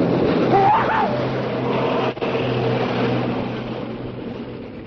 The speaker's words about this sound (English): Just ahead now, I can see Brighton Pier, and we're moving out so that we shall race past the end of it. We're coming up to the pier now, and the towing boat is getting even more speed. Whee! This is fun!